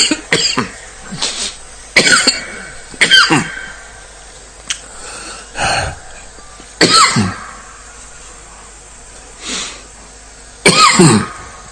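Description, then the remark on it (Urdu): Repeated harsh coughing bursts close to the microphone, some in quick clusters of two or three, separated by short pauses with throat clearing and heavy breaths in between, no talking. “میرے پر گدام مسل میں نہیں کر رہا، اس لیے کھانسی ہے.”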